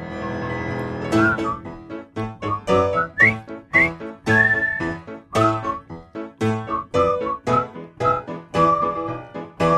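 Several people whistle a bouncy tune together in short, rhythmic notes that rise and fall. The whistling is close and fairly loud, with no talking.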